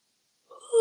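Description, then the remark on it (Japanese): A breathy voiced yawn begins after a short silence, starting softly and swelling louder before cutting off abruptly. “あくびが。”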